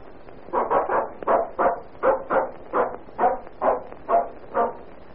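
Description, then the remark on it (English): A dog barks about a dozen times in a steady, rapid rhythm, each bark short and evenly spaced, clear, with no talking. “Foolish, brainless, soulless dog.”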